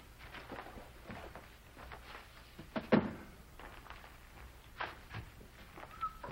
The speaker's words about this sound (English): He goes into his office, closes the sliding doors.